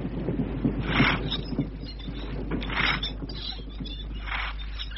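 A rowing boat carrying a party of men approaches a ship across the water to come aboard: steady oar strokes splash in a slow rhythm, about every second and a half, over creaking wood and a low rumbling background, with no voices.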